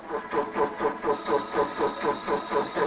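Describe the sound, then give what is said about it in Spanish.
A fly's courtship vibration song: a steady series of buzzy, mid-pitched pulses repeating about every quarter second, rhythmic and even in loudness, with no voices. “¿Cómo liga la mosca?”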